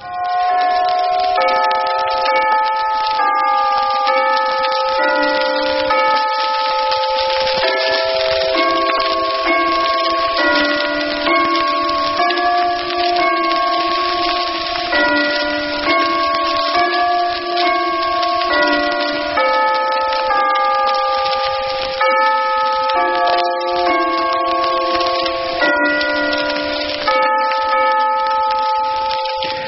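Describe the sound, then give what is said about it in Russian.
The bells of Westminster Abbey peal continuously for Christmas, recorded in 2018, in a rapid, overlapping sequence of ringing tones at steady volume, a full change-ringing cascade with no voices. “А теперь это запись 18 года специально к Рождеству колоколов Вестминстерского аббатства.”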